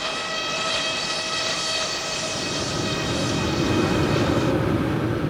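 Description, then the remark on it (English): Antique steam-powered sawmill machinery at the Hull Oaks Mill, open since the 1930s, runs in a steady, loud mechanical drone, with a rumbling low end and a whining tone held constant throughout, and no voices. “Wherever you look, there's antique machinery at work.”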